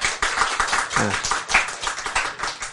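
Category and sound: crowd, audience clapping hands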